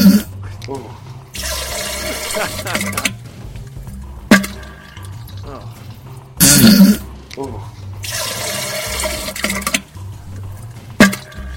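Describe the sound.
A very short novelty phone ringtone built from loud, repeating bursts of rushing, flushing water with sharp clinks between them, and a voice exclaiming briefly over the pattern.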